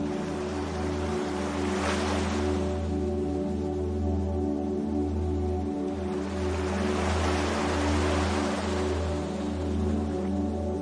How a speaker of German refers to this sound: Mit jedem Schritt wird das Rauschen der Wellen lauter und klarer. Und dann, am Ende des sandigen Pfades hinter den Dünen, liegt es vor mir, das unendliche, weitläufige Meer.